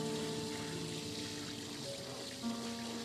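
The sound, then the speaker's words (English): Cool water sloshing and splashing steadily around tired feet on a hot day, a continuous wet churning with no voices, holding an even loudness for about three seconds. “Cool water on a hot day.”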